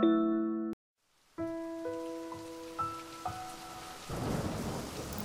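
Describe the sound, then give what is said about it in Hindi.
Steady rain hisses beneath sustained musical tones, swelling louder near the end with low thunder-like rumbling. A short silence follows a brief opening chord. “इस बारिश के साथ मन के आसमान पर भी यादों का सतरंगी झूला उगाया है, बहुत सारे रंगों को एक साथ लेकर।”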